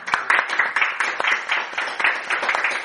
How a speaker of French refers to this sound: Merci les musiciens. Tiens, on les applaudit.